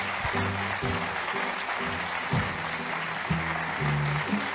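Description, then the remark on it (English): An audience in a tent claps steadily for several seconds, a dense, even wash of hand claps at a fairly strong level, with low humming tones running underneath. “That was a long walk for no applause.”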